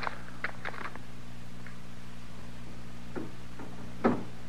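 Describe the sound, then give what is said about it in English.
A door rattles in short, irregular bursts of knocking and clattering, mostly quiet, with one louder jolt near the end, over a steady low hum. No one speaks. “Is somebody working the door that way?”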